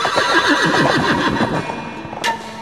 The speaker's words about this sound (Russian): Земля начала ходить ходуном, послышался топот копыт, громкий, как раскаты грома, видит джигит. Скачет пегий жеребец в 60 обхватов. Грива золотая так и бьется.